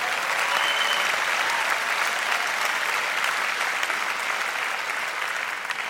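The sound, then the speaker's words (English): Steady, dense applause from an audience, a continuous wash of many hands clapping at an even, fairly loud level for the whole stretch, with no voices standing out. “Yeah, sure, applaud.”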